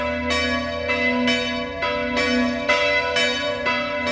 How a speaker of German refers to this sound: Gut zuhören und mitraten. Achtung. Wo klingen die Glocken genauso? Kommt noch eine zweite dazu.